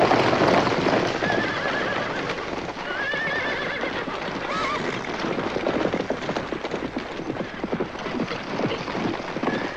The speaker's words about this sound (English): It was a band of wild Apaches who, with blood-curdling screams, were herding 10 riderless horses down through the canyon.